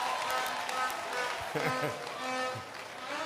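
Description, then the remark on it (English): An audience claps together in a steady, dense wash of hand claps for a contribution, with crowd voices murmuring and calling out over the applause throughout. “Let's clap hands.”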